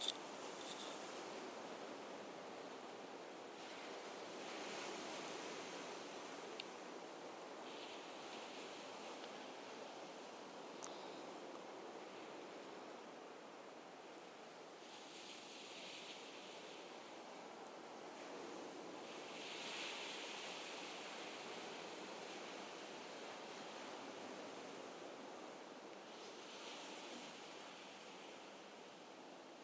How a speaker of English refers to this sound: And I'll leave you with some more waves.